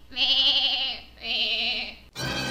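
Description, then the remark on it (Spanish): Small goats grazing on grass on the plains bleat twice in quick succession, each call long, loud and wavering, followed by a brief burst of rustling noise at the end. “En una fresca tarde de verano se encontraban unas pequeñas cabras comiendo pasto en las llanuras.”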